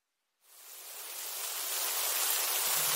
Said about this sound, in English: Aw, it's raining.